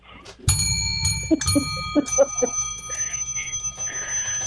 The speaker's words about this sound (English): Someone ring a bell.